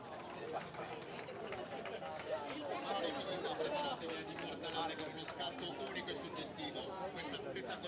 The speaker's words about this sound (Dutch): Nou ja, en jullie horen natuurlijk ook de bijgeluiden van het publiek. Tenminste, dat neem ik aan, dat dat te horen is.